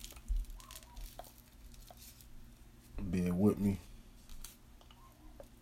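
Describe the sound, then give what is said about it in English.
Someone rolls a paper blunt with rolling paper: soft, scattered crinkles and small papery clicks, quiet and intermittent, with a man's brief remark in the middle. “I need to roll something while I smoke and talk.”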